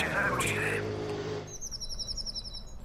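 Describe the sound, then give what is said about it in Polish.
After a brief stretch of voice and background sound, birds sing spring birdsong in a quick, repeated series of high chirps and trills, clear and continuing steadily to the end. “Niech te ptaszki Państwu towarzyszą, poprawią jednocześnie humor.”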